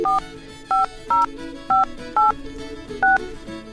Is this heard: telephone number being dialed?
yes